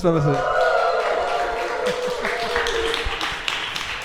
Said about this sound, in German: Und wir sind nicht alleine, wir haben nämlich ein Live-Publikum hier. Lasst mal was von euch hören.